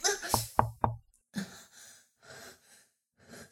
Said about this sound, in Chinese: 有人在敲门，我们快去门边。